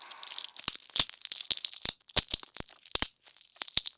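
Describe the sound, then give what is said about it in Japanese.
Crunchy chewing, with crisp irregular crackles and snaps as food is bitten and eaten, with no talking. “どんどん食べてくださいね。もぐもぐもぐもぐ。”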